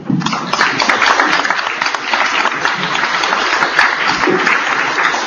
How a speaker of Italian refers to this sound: Certo, questo è bellissimo. Un applauso